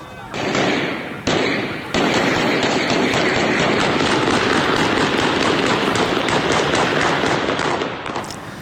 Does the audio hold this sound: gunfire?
yes